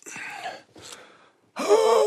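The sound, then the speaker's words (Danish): A man yawns: two breathy, drawn-in gulps of air, a brief pause, then a louder, stretched-out groaning exhale that trails off at the end. “en af de to mænd, han er på et tidspunkt også lyst op og gaber.”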